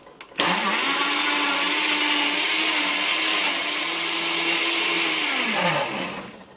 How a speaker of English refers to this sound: So throw in 6 strawberries, then pour in 1/2 cup of milk, 1/2 cup of strawberry yogurt, 2 scoops of strawberry ice cream. Put the lid on your blender and turn it on to high and leave it on here for about 1 minute.